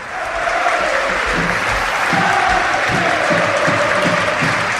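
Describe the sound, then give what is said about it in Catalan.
A large stadium crowd at Mestalla in Valencia breaks into unanimous applause after a minute of silence, a loud, dense wash of clapping that rises quickly and holds steady, with faint rhythmic pulses underneath. “Trenca en un aplaudiment unànime la grada del públic de Mestalla.”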